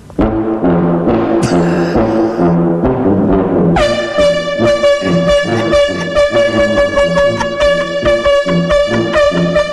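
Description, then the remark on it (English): Blaring air horns honk out a bouncy oom-pah polka rhythm, then one long, loud horn tone holds steady over the continuing thumping beat. No talking. “I'm going to do a nice little polka beat for Norm. Okay. And once again, lacking a proper instrument, I'll be on air horns”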